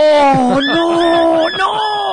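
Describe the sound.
Dogs whine and yelp in loud, continuous, wavering high-pitched cries, with a quick run of shorter yelps pulsing underneath, lasting about two seconds, in the kitchen of a Chinese restaurant.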